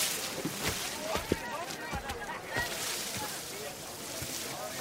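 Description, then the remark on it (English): Boats being poled through water by men standing in them and pushing with long poles, beside a bank of tall papyrus reeds: irregular splashes, sloshes and knocks of poles and hulls, over a steady wash of moving water and light wind. “They're standing and using long poles to balance and to push their boats forward.”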